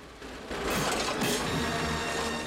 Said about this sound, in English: A chain snaps and a cog drops.